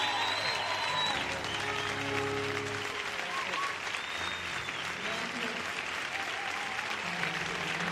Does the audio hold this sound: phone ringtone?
no